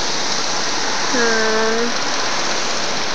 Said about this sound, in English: I see a lot of cicadas flying around. Let's just see if they pick up in sound again. They tend to, except for when it gets windy. There they go.